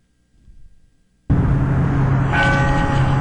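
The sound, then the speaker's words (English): After a moment of near silence with a faint low rumble, the loud bell of an old church near the park with the Gateway Arch suddenly rings out, its clanging tone sustained with ringing overtones that swell toward the end. “There's an old church right here nearby the park where the Gateway Arch is located in, and that was the bell that we heard.”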